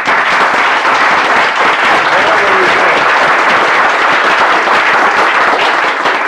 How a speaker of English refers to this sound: Would the body please give them a warm round of applause?